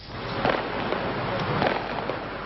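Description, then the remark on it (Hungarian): A small fireworks display goes off at 2 p.m. in Budapest, with four or five muffled bangs spaced irregularly over a steady outdoor hiss. “Délután 2-kor lehetett látni Budapesten ezt a kisebb tűzijátékot, pedig akkor még tilos volt.”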